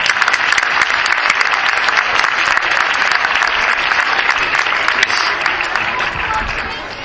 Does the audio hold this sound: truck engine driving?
no